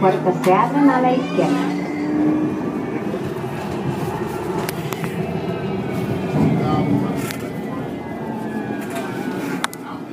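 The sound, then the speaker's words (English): Passengers step off a stopped train at McGowan station, heading back southbound, amid a steady low rumble, with a brief chime near the start, scattered clunks and footfalls, and indistinct voices murmuring in the background. “Okay, so we're getting off the train, walking off at the McGowan stop, heading back southbound.”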